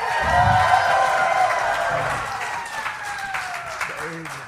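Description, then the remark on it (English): A live audience at Parlor Live erupts in loud, sustained cheering and applause after Graham Elwood is introduced and throws a bunch of cash into the crowd, with whoops and shouted voices rising over dense clapping before it gradually settles down. “Now, I should note to the listener that he just threw a bunch of cash into the crowd. That's how he got everybody to go so apeshit.”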